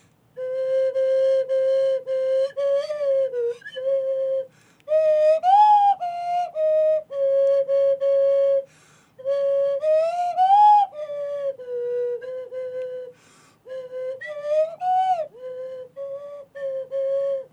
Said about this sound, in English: And at one moment, several of the orchestra have to play in unison. And I'm playing a slide whistle here, so my intonation might not be so great.